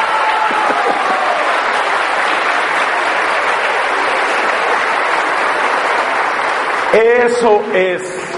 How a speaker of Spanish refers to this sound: Señoras, señoritas, niñas, lo que ustedes nunca hacen, háganlo. Denle un aplauso a estos señores, por favor.